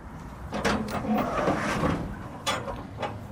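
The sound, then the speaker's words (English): A heavy metal latch creaks and clanks as the steel door of a shipping container at an edible insect farm in a Denver, Colorado suburb is worked open, with several sharp scraping bursts over a steady low rumble. “A metal latch creaks as Wendy Lou McGill opens a shipping container in a Denver, Colorado suburb.”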